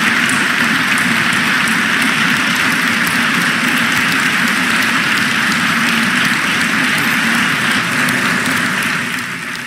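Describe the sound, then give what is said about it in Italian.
A large audience at the Teatro Dal Verme in Milan applauds steadily at the close of the first part of a public event with Nobel laureate Han Kang presenting her book in Italy, a dense, loud wash of many hands clapping that holds for nearly ten seconds before easing off slightly. No one speaks over it. “Gli applausi che hanno salutato la conclusione della prima parte dell'incontro pubblico di Han Kang, premio Nobel per la letteratura 2024, in occasione della presentazione in Italia al Teatro Dal Verme di Milano del libro”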